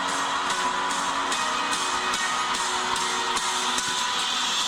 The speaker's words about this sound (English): standing ovation from the crowd as she bows her head before them.